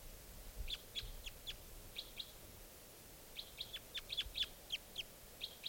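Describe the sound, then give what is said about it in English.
A single wild bird gives short, high-pitched chirps in uneven bursts, a few quick notes, a pause, then a longer run of repeated tweets over a soft, low background hiss, while playback is being played to it. “I think there might just be this one bird here.”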